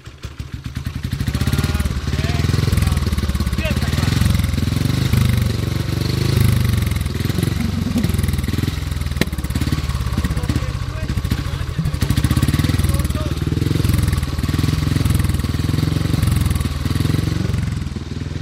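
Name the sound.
motorcycle engine running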